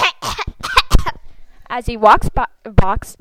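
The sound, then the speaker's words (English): A person coughs hard several times in quick, forceful bursts, then lets out strained, voiced hacking sounds, loud, like a deliberate, exaggerated coughing fit. “Every time you eat or drink, cough really hard.”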